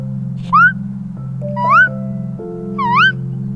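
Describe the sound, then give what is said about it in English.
A child's voice imitates a bird, giving three squeaky, rising chirps spaced about a second apart over a steady low hum. “Kind of like a squeak and a chirp mixed together.”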